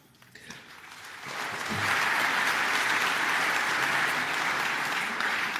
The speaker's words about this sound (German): Ich finde, es reicht, wenn Sie jedes zweite Mal klatschen.